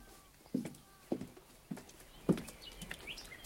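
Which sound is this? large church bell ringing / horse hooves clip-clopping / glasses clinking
horse hooves clip-clopping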